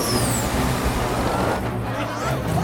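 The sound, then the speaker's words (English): A helicopter that has lost power spinning violently out of control: a loud, steady mechanical roar with low droning rumble and a high whine sliding downward in pitch, churning without a break. “The airborne chopper spins violently.”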